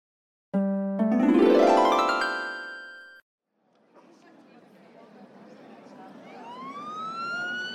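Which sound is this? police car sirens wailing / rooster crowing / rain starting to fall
police car sirens wailing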